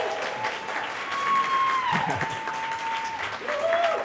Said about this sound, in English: Listen to that crowd.